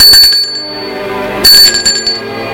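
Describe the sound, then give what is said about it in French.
A doorbell rings twice, bright metallic chimes with a sustained high ring that decays, the second strike landing about a second after the first. No voices are heard. “L'on sonne une deuxième fois.”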